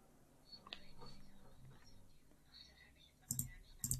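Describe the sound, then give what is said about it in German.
Two quick pairs of sharp computer mouse clicks near the end of a quiet stretch, crisp, as someone looks through their own written texts, with faint breathy murmuring and soft room noise before them. “Muss ich mal einmal ein bisschen hier klicken.”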